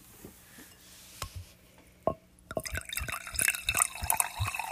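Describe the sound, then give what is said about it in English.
Liquid pours with a bright, bubbling gurgle that builds and thickens, preceded by a few sharp, separate drips and clinks; no one speaks. “Whenever I pour mine, it always pours faster.”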